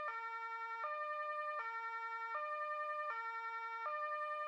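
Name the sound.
police car siren arriving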